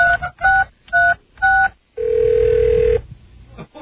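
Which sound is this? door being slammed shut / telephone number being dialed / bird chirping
telephone number being dialed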